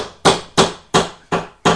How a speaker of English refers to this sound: I'll use my hammer. I'll use my hammer.